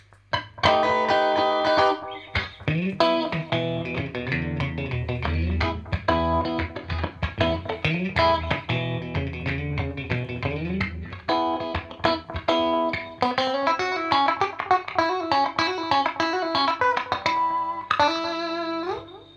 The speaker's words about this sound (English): Now let's switch on the Orange Squeezer and you'll notice it will compress more.